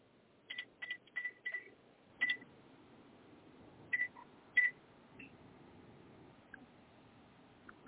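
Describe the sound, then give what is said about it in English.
A series of short electronic keypad tones as a phone number is dialed, quick beeps in an uneven rhythm with pauses between groups, over a low background hum. “All right, you make a phone call.”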